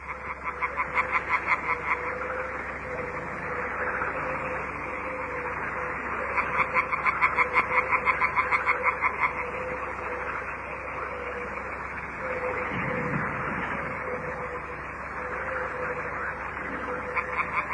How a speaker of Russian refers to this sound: Или как музицируют лягушки, собравшись в многоголосые хоры.